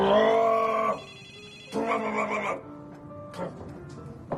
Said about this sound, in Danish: Jeg vender tilbage. Det er telefonen, der ringer. 2 sekunder.